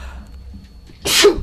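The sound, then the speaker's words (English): A single sharp sneeze bursts out suddenly after a quiet stretch, loud, with a breathy high-pitched spray of noise that fades quickly. “And I'm going to sneeze.”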